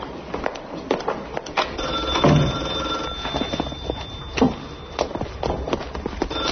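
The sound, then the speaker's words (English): A telephone rings, its tone steady for a second or two amid scattered clattering and footstep-like thumps, with no voices. “Never, ever pick up the phone.”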